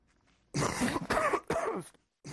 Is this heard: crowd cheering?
no